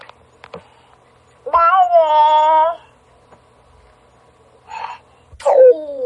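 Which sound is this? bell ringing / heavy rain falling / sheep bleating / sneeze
sneeze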